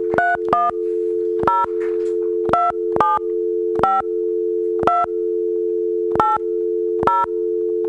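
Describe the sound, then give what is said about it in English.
A steady telephone dial tone hums continuously while about nine short keypad beeps are pressed at uneven intervals over it; no ringing follows and no one speaks. “Is it not ringing? It doesn't seem to be yet.”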